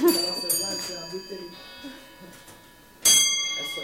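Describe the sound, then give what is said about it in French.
A bell strikes and rings with a long, shimmering sustain, then is struck again near the end, its bright tones hanging in the air over faint murmuring voices. “On va attendre que la cloche sonne.”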